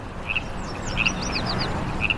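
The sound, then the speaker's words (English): Baja California frogs calling by the river in Frogtown, Los Angeles, just after dusk, in short, bright, raspy bursts that repeat irregularly, with thin sweeping chirps between them, all over a steady low rush of river water. “I couldn't leave LA without hearing the call of the Baja California frog that Stephen Appleton mentioned over in Frogtown.”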